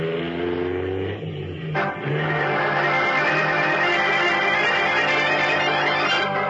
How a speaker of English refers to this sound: Pressing the accelerator down to the floor, Batman sends his powerful car hurtling back over the twisting road in pursuit of Big George Latimer.